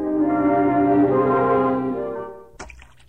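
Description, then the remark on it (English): Water pours steadily into a basin as someone washes up, a full, ringing tone for a couple of seconds, then it tapers off and ends with a short knock and a faint trickle. “As soon as you're through washing, we'll go in.”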